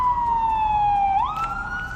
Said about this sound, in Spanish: Es el sonido de los coches de la policía al llegar a la zona.